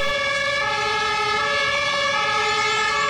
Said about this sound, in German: Na, hoffentlich lässt die Feuerwehr sich nicht allzu viel Zeit. Ah, da höre ich sie schon.